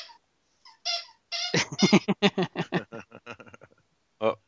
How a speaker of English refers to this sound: Harley has this pumpkin and she does the funniest thing with it. She doesn't put it in her mouth, but she'll like pounce on it and it's make it squeak.